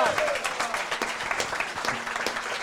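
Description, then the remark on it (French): An audience applauds steadily for a few seconds, a dense, crackling wash of many hands clapping at an even, fairly loud level, with a brief voice faintly audible at the start. “Et voilà, et j'allais vous dire des applaudissements pour Lucas, pour lui faire chaud au cœur et là où il nous entend.”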